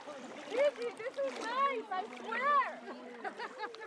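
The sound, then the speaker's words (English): About a dozen people wade and splash into chilly, purplish-gray water in the evening under a cloudy sky lit pinkish-orange by city lights, with soft sloshing under a steady stream of excited, overlapping voices, exclamations and chatter throughout. “About a dozen of us walk into the purplish-gray water.”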